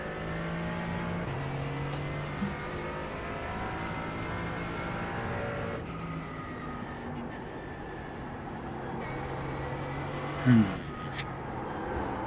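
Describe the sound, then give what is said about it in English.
A Mercedes car engine drones steadily while driving, its layered hum shifting pitch a few times as it revs, with a brief sharp knock near the end. “Oh my God, this car turns like shit. Why am I driving this?”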